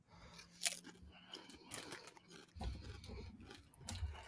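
Crisp, irregular crunching of seaweed potato chips being chewed, with sharp bursts of crackle and wet mastication sounds over about four seconds, no voices.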